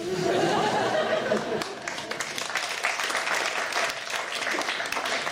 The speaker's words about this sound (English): It's a bit depressing when these get more applause than the ones I spend hours on.